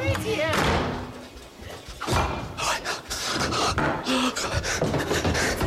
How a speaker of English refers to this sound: And now I need to get out. Quickly! Well, the door didn't close properly.